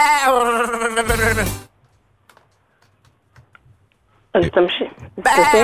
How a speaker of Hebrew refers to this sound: עם הצליל הזה, כן. שומעים פה כבשה, עז.